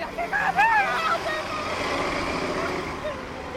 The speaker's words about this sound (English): They're too late. The bus drives off.